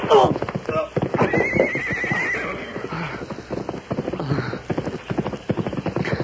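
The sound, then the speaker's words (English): A horse whinnies with a high, shrill neigh while hooves clip-clop in a steady, rapid rhythm as a rider approaches on horseback, the loud galloping beat continuing throughout with some voices mixed in. “Hey, who's this riding this way?”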